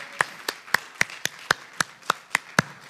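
Steady, evenly spaced clapping, about a dozen crisp claps at a brisk pace, moderately soft, with no talking over it.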